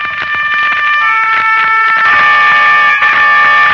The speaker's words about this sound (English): Not the distant horn of Roland, protector of France, but the strident horn of the motor car that was to take an American child away from the scenes of his happiest years and set him on his journey home.